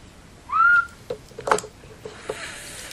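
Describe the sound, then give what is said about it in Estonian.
A single high whistle of air moving fast through a small opening rises and bends in pitch for about a third of a second, followed by a few faint clicks and soft hissy sounds, with no talking. “Vile tuleb siis, kui õhk liigub kiiresti.”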